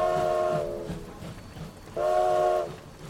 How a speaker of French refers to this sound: Cette nuit-là, sous la pluie battante, le train de cirque klaxonne tristement, alors que le cirque reprend la route vers sa destination suivante.